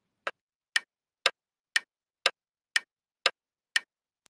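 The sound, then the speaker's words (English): A clock ticks steadily, about eight crisp, sharp ticks spaced half a second apart, clear with nothing else in the background, like a countdown timer running. “Oh, time is ticking.”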